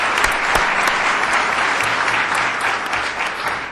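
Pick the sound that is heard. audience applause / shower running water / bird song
audience applause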